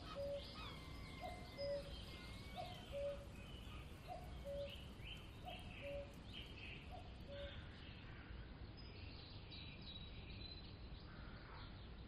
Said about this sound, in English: From near the woods, a cuckoo calls.